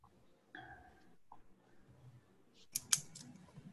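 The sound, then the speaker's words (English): Two quick, sharp computer mouse clicks, the second a bit louder, over a quiet hum with faint shuffling sounds before them. “I kept clicking and it wouldn't do anything.”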